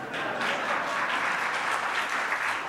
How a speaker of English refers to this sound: You may applaud if you wish.